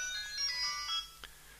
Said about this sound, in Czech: Někdo volá.